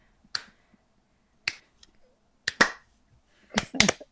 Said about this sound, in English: And a few people standing around the booth like are clapping and cheering a little bit for you because... Is it a slow clap?